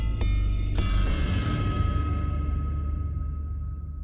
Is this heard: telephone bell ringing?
yes